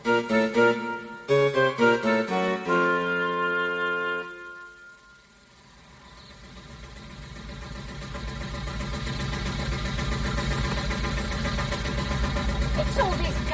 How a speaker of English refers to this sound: What do you think it is? It's the engine. Well, how long does it go on for? All the time, whenever we're moving.